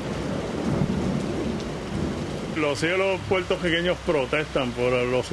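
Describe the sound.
Deep thunder rumbles and rolls through a steady downpour in Puerto Rico, then a person starts talking while the storm noise carries on underneath.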